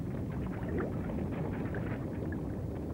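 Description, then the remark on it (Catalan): A submarine engine rumbles loudly and continuously as the vessel brakes with its engine smoking and out of fuel, a dense low mechanical churning with faint bubbling texture, with no voices. “El submarí frena amb el motor fumejant i l'heli se satura del tot.”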